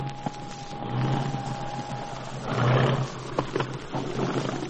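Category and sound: vehicle, airplane engine roar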